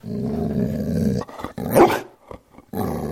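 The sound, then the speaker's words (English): A 6-year-old greyhound mix dog of about 60 pounds growls in long, rumbling stretches, lets out a single loud bark in the middle, then growls again. It is alone, with no one talking. “That's Ricardo, my 60-ish pound, 6-year-old greyhound mix. He says hi.”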